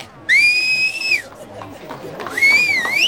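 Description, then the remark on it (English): Two loud, shrill whistle blasts hailing a cab in London: a long steady note, a short pause, then a second note that rises at its end, over faint background murmur. “No need to whistle for every cab in London.”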